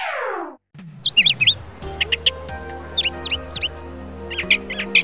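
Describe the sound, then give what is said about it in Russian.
A 43-year-old man from Tokushima city, Tokushima prefecture, on Shikoku island whistles imitation bird chirps: quick, high, rising-and-falling tweets in three bursts over a steady low hum, after a short descending tone at the start. “Вы думаете, это свистит свиристель? Или пуночка? Нет, это цвиркает 43-летний”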